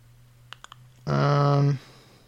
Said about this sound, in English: Let's hold down caps lock and hit N.